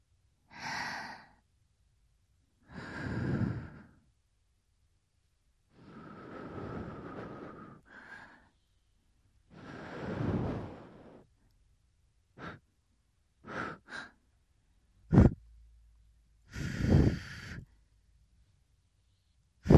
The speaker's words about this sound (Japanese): これで終了。最後に息吹きかけて、耳に残ってるガスを飛ばしちゃうね。